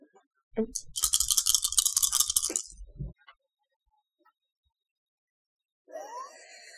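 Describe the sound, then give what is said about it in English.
Five dice rattling together for about two seconds as they are rolled for a body plus coordination roll, a bright, dense clatter that ends with a couple of loud knocks as they settle. A short, quieter burst follows after a pause. “And let's go a very unusual thing to do, but I think justified in this case, a body plus coordination for five dice from Lissa.”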